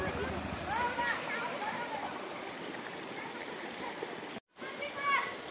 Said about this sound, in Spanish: Miren nada más, les voy a enseñar para que vean la calidad del agua. Está fluyendo día y noche, es agua limpia que sale del centro de la tierra, tibia.